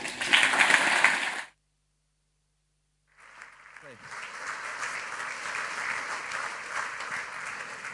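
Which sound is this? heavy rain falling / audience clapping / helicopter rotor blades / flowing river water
audience clapping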